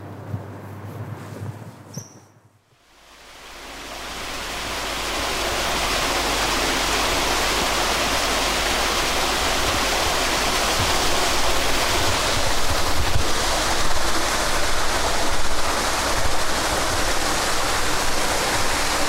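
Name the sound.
water rushing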